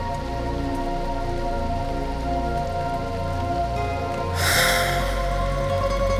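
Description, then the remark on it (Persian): Steady rain falls and patters on a hard surface, a continuous hiss that swells noticeably louder for the final couple of seconds, with no voices present. “بارون که میزنه دلم میخواد چترم رو بردارم برم تو خیابون، از کنار آدم ها رد بشم بگم ببخشید چتر نمیخواین، باشون حرف بزنم درد و دل کنم.”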